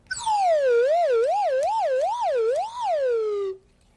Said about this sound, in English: When I first played the slide whistle, though, I played like this.